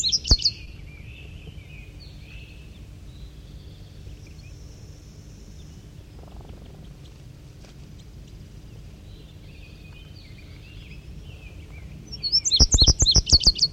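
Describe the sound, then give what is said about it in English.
Birds sing in pine trees, the singer being the bird known as 5-3, in high, bright chirps, a quick burst at the start and faint calls in between, ending with a loud run of rapid, repeated tweets over a low, steady background hum. “And I believe it's 5-3 there doing the singing.”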